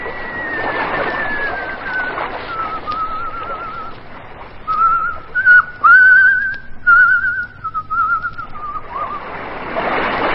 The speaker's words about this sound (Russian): Через 5 минут Гаврила храпел, а Челкаш, сидя рядом с ним, примерял себе на ногу чей-то сапог и, задумчиво сплевывая в сторону, грустно свистел сквозь зубы.